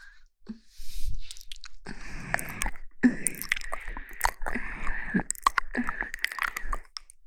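Wet, crunchy chewing and biting noises repeat continuously for several seconds, with irregular bursts of crunching and smacking mouth sounds and no talking.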